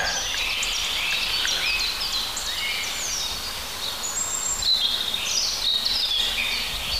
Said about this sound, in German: Schöne Rotkehlchen. Ach, ist doch herrlich.